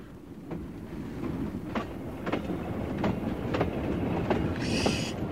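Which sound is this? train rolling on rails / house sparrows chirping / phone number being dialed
train rolling on rails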